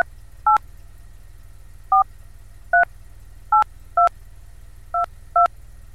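A series of short dual-pitched phone keypad beeps as a personal identification number (OIB) is entered on a telephone keypad, about eight quick presses at uneven intervals, clear over a low steady hum, with no talking.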